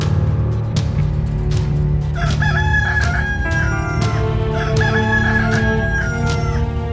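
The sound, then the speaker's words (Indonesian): Two loud rooster crows ring out one after another, each a drawn-out cock-a-doodle-doo over a dense, steady background of low rumbling noise and faint clucking. “Masih ada sayembara sabung ayam.”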